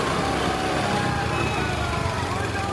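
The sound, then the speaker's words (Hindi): A small scooter engine hums steadily as a woman rides her scooter toward her office, where a crowd is shouting slogans, and goes to park it; a continuous buzzing drone holds an even loudness for the few seconds, with busy street noise in the background. “अपनी स्कूटी से ऑफिस की तरफ आ रही है।”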